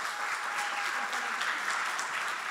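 An audience claps steadily for the leader of a church intercession ministry, a dense, even wash of many hands clapping at once that holds at a constant level for the whole stretch, with no voices standing out.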